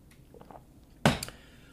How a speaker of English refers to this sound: I'll get some water here before I continue.